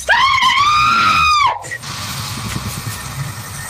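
A woman on a live stream lets out an extremely high-pitched, sustained scream for about a second and a half, loud and piercing with a slight wavering rise, blowing out her microphone, then it cuts off into low rumbling background noise.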